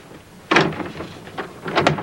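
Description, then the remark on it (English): A door fitted with a newly installed electronic lock is jiggled and tugged without opening, giving a few sharp rattling thunks at uneven intervals, moderately loud, with no voices. “What's wrong with my door?”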